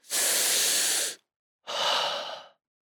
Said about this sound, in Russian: Дышим глубоко.